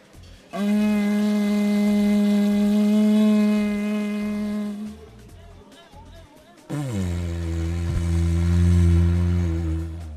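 A didgeridoo, an Australian wind instrument, blown in two long, buzzing drones, the first steady for about four seconds, then after a brief pause a lower, rougher drone with wobbling, growling overtones.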